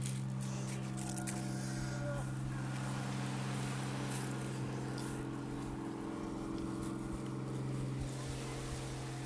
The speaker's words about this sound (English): Powerboat going past left to right.